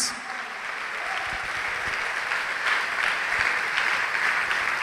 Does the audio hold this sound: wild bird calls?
no